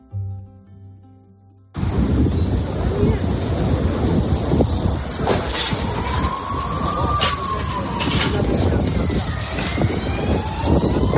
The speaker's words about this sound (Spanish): Un vecino grababa con su móvil este momento que escuchas, con rachas de viento de hasta 60 kilómetros por hora y la llegada de los primeros coches de bomberos.